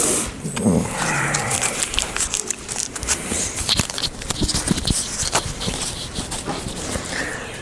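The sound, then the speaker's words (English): A cough drop being unwrapped: a steady run of sharp, irregular crinkles and crackles of plastic wrapper for several seconds, moderately loud, with no one speaking. “While I open my cough drop here.”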